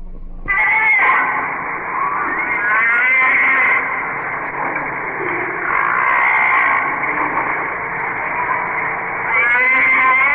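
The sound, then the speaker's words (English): Humpback whale song recorded underwater: loud, continuous wavering moans and cries with rich harmonics, rising and falling in pitch and swelling in long overlapping phrases, with no talking. “These are underwater recordings of the humpback whale, now almost extinct.”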